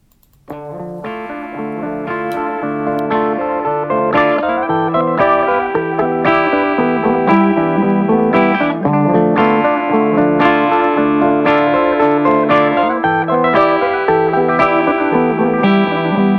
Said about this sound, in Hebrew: אז עד כאן חלק ממילות השיר, והנה בואו תשמעו את כולו